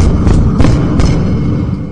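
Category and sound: impact, banging on a wall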